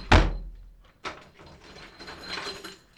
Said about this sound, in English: Without warning, the trapdoor was slammed shut and locked from the outside.